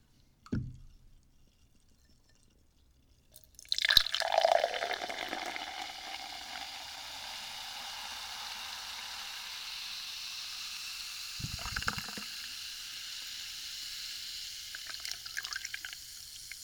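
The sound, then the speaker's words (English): A fizzy drink splashes into a glass, then a steady crackling fizz of bubbles carries on. A couple of soft clinks or taps break in near the start and again partway through. “I'm gonna pour it into a glass because personally, I really, really love that noise too.”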